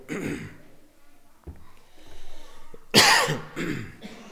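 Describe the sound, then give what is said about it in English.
A person coughs repeatedly in a harsh fit, several bursts spread over a few seconds with a loud, raspy cluster near the end and throat-clearing breaths between. “Do you have a cough drop? Excuse me.”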